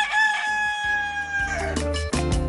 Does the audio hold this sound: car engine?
no